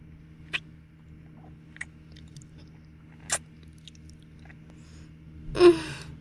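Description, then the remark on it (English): Wet sucking and slurping mouth sounds, quiet: a few sparse smacking clicks spaced a second or more apart, then a louder, longer slurp near the end, over a low steady hum. “Wrapping around your head, sucking and slurping.”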